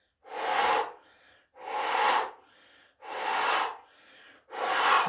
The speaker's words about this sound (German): Und tief ausatmen, vollständig leer atmen, dann Uddiyana Bandha einziehen, Bauch zieht ein.